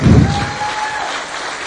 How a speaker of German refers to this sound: Hat der Oskar einen Applaus verdient, oder?